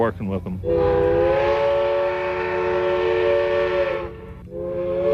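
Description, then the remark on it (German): A steam locomotive whistle blows one long, steady, multi-toned blast for several seconds, breaks off briefly, then sounds again. A short bit of voice comes just before it. The locomotive was built in Richmond, Virginia, and fully restored. It pulls a train on a line to the Grand Canyon. “Dampfloks sind zwar sehr viel arbeitsintensiver als eine Elektro- oder Diesellok, aber sie haben noch eine Persönlichkeit.”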